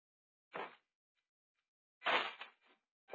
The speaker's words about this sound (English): Inside a small, cheap, furnished apartment, shabby old-fashioned building, glows the more sinister light of fast-spreading flame. Outside its locked door, firemen swing their axes.